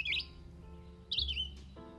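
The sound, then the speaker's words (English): Two short bursts of bright, warbling bird song, a vireo's phrases played from a phone's library of bird songs through its small speaker, separated by a brief pause over a low steady hum. “He finds the vireo, the bird whose body he found on the ledge today, and he plays its song.”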